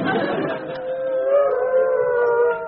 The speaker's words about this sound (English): All right, keep the howling down. Now, I'd like to bring this meeting of wolves to order.